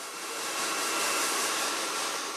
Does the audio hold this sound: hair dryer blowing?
yes